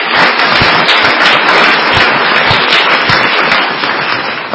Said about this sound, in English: today on the floor of the United States Senate will be recognized one Barbara A. Mikulski, United States Senator from Maryland, for being the longest serving woman in the history of the United States Congress. And so we all applaud her.